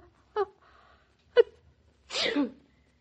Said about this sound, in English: Will you please stop sounding so self-satisfied because I sneezed?